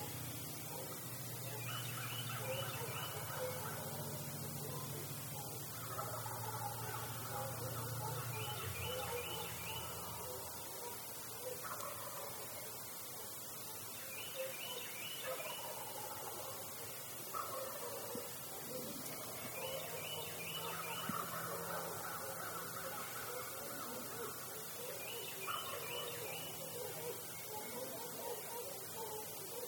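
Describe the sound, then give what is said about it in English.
A wild turkey hen clucks softly and repeatedly in short, irregular bursts over a steady outdoor background hiss with faint other birds. “Making happy little clucks.”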